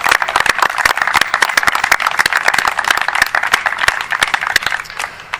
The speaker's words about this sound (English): So if you would join me in a round of applause for our veterans, please.